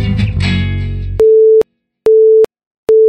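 A burst of loud, busy music cuts off abruptly into a telephone busy tone: three steady, mid-pitched beeps in an even on-off rhythm, each separated by silence.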